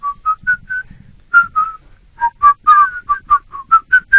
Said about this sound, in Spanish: si pueden tocar la marcha de Zacatecas con silbido, ¿sí lo hace?